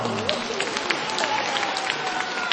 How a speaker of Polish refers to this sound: Brawa także dla wszystkich widzów telewizji TVAM i słuchaczy Radia Maryja. Gorące brawa!